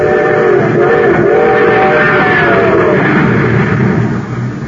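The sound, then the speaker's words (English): A train rumbles loudly and steadily, its wheels and engine roaring at speed, with a sustained whistle-like tone running through the noise, no voices. “Yes, sir, that train's really traveling now because it's supercharged with super fuel.”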